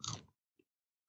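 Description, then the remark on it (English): A single loud crunchy bite into a dry, sour cream and onion flavored cricket, a brief crackling burst followed by a faint small crunch a moment later, with no talking. “That one really crunched.”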